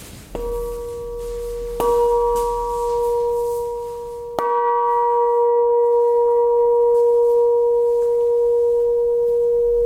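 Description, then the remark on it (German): A church bell cast for the Landesgartenschau in Apolda, now hanging at a church entrance and bearing an image of Albrecht Dürer's praying hands, is struck three times, each stroke adding to a sustained, resonant hum that keeps ringing and slowly fades. The tone is mid-pitched and steady, with no voices. “Die Aufgabe der Glocken ist ja zu rufen, die Gemeinde zu rufen und zu erinnern an das Gebet.”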